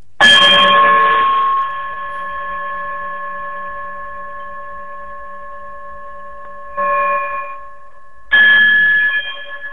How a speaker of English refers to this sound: Brother Braggs, if you would be so kind, my good brother, to chime us out, we will all see you soon.